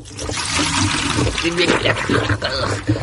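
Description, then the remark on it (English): Warm milk pours over someone's head in a laboratory experiment to neaten the hair, a steady splashing gush that runs unbroken for about three seconds, wet and fairly loud throughout. “When the milk was poured over the head, the outcome was not the required neatness of the hair.”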